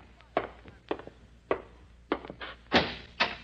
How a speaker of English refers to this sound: Close the door, Rocky.